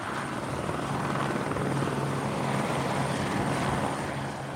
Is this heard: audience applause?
no